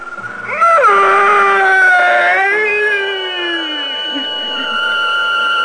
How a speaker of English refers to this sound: The priest drove the sharpened oak stake through the body. And that fearsome shriek, which still sounds in my dreams, rent my ears.